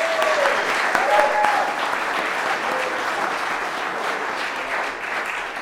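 An audience applauds steadily, a dense wash of many hands clapping at even loudness for several seconds, with faint cheers or whoops rising briefly near the start.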